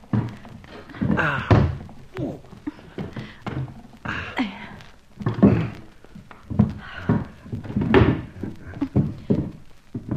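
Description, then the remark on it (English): Chairs being shoved and stacked against a door, a cluster of wooden thunks, scrapes and knocks, irregular and fairly loud, spread across the whole stretch. “Now, help me put these chairs against the door.”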